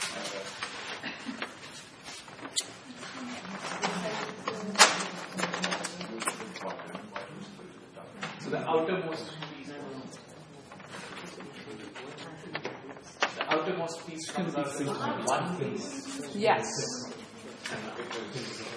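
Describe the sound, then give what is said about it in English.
A little pair of scissors snips a strip, cutting to divide a piece into three, in a run of quick, crisp clicks, partly under a person talking. “I'm going to cut a little strip starting near this edge.”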